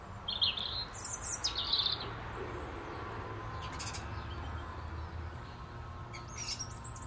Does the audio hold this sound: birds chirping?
yes